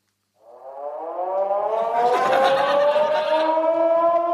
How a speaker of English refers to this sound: Oh my gosh! The siren was getting louder and louder.